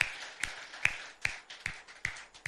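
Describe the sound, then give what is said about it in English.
A church audience claps together in praise of the Lord in a steady, even rhythm, with sharp, bright claps landing about twice a second over a dense wash of scattered handclaps, and no voices. “Let's give the Lord a big clap of praise.”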